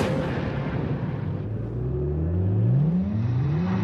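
A nine-year-old V8 car engine, on a car fitted with Firestone Destination tires, roars and revs steadily, its deep rumble climbing in pitch as it accelerates over about four seconds, loud and continuous with no talking.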